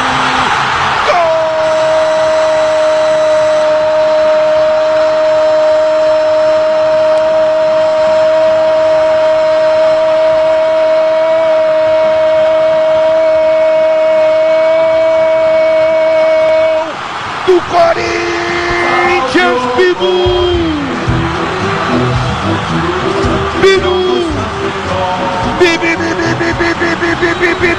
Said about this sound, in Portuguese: pra explosão da fiel torcida corintiana.